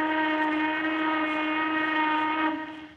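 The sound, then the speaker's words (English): A factory steam whistle marking five o'clock on a Friday afternoon blows one long, steady, piercing tone, loud, with rich harmonics, holding for about two and a half seconds before starting to fade. No voices. “Yes, it's that good old 5 o'clock whistle.”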